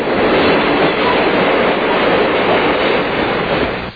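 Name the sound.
train sound effect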